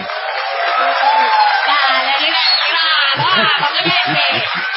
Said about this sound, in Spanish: Todavía peor será el... el sonido que se percibirá desde centenares de metros dedicado a la ovación del artista antes llamado ….